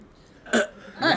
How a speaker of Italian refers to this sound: Questa era una scoreggia. Però il procedimento è quello.